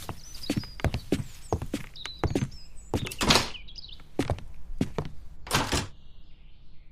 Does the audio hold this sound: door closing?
yes